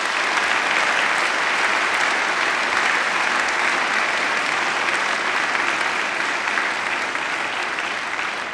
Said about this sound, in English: I think this is time for a very big applause to you and your early time in New York. Thank you very much.